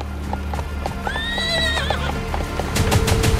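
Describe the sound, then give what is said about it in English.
A horse whinnies loudly over the steady clip-clop of hooves, the hoofbeats becoming heavier and more insistent toward the end. No one speaks. “My horse brought me here as quick as it could.”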